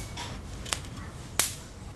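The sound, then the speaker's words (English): Two sharp, crackling zaps about half a second apart, like mosquitoes being fried by an electric bug racket, set against a quiet background hum with no talking. “That is the sweet sound of mosquitoes hitting the racket.”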